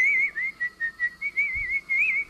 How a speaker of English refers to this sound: So out of this comes what some people might describe as sort of like a dying talent of being able to whistle beautifully.